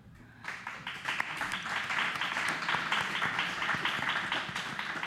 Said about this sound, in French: Ouais. On peut applaudir ça.